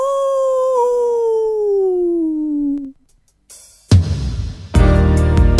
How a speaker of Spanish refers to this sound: El hombre lobo. ¡Aú!